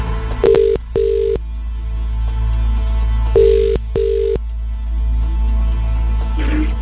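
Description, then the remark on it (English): A telephone ringback tone on an outgoing call to a contest entrant's number picked at random: two pairs of steady electronic burbles, each pair a quick double ring, separated by a pause, clear and fairly loud over a low hum. “So to win, you just need to pick up your phone within five rings and say, make me a winner.”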